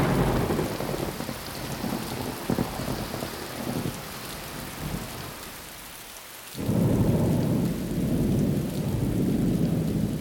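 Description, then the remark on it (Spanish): Steady heavy rain hisses throughout a thunderstorm, with low rolling thunder early on, then a sudden loud thunderclap near the end that rumbles on deeply under the downpour. No one speaks. “Tal vez fueron a la finca y los agarró la tormenta.”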